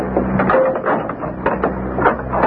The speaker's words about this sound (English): I'll close and lock the door.